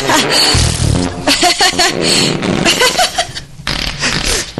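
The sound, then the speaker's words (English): Someone imitates fart sounds, a run of loud, wet, sputtering raspberry-like blasts with buzzy low rumbles, strung together over several seconds with bits of laughter mixed in. “Okay, can you make fart sounds?”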